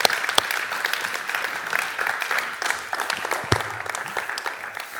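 audience applause

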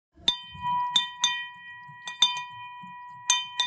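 celebration bell being rung

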